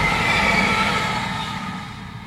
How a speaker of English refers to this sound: Now, all things being well, there should be another train going the other way just about now. If the time's all right. It may not be.